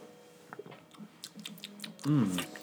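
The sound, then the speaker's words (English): Someone takes a sip of a tart, fruity, low-acidity coffee: faint wet mouth clicks and small ticks, then a short, louder slurping gulp with a brief voiced hum near the end. “One more sip.”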